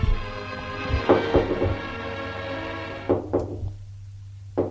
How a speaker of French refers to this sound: On a frappé à une porte. Il entend le commissaire qui a ouvert.